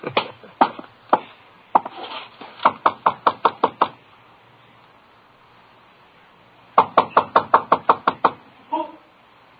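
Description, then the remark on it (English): Firm knocking on a door in quick bursts: a few scattered raps, then a rapid run of about eight, a pause, and another insistent volley of sharp, loud knocks. “Well, opening the door might be one way of finding out.”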